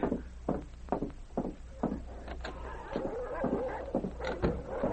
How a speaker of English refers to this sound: The dogs, they must have catch a jackrabbit back near the shed. They are snapping over something to eat. The dogs, which usually burrowed into a snowbank alongside the shed, were snapping over the dried caribou